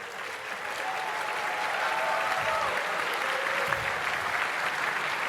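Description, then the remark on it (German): A quiz-show crowd gives sustained applause to Team Crack Amadeus, which leads the interim standings. The clapping is a dense, steady wash that holds at an even, fairly loud level for several seconds, with faint voices mixed in. “Einen großen Applaus.”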